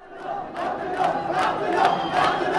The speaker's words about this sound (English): It was one of the final campaign rallies, and neither the ferocious heat nor the threat of violence seemed to have much effect on this boisterous crowd that came out to show support for Dr. Abdullah Abdullah, one of the key contenders